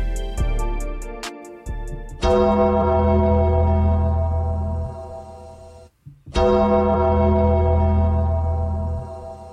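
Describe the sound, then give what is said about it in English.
A loud bell, called a dead man bell, rings out in a few heavy strikes, each leaving a long, shimmering resonant tone that slowly fades, with a brief gap of silence before the last strike. No one speaks. “You heard the dead man bell go off, so that means one thing, ladies and gentlemen.”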